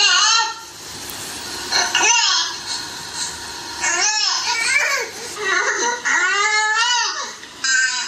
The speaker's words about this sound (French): Ce son, par exemple, celui-là, ça va être le son « nez ». Alors, si vous voulez bien, je vais vous faire écouter les pleurs. Donc, écoutez-les bien attentivement. Il y aura plusieurs bébés différents. Vous allez voir qu'il y a des petites variations.